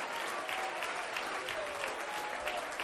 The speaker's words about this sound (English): Come on, somebody clap your hands and lift up a praise unto God.